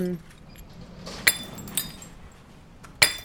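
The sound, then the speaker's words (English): Small empty glass pharmaceutical bottles, thrown away as waste, clink together in a few sharp, bright knocks, with quieter rattling between the louder contacts. “I was really interested in exploring waste and many of the things that are thrown away that are perfectly good, such as this, these empty bottles of various pharmaceutical products.”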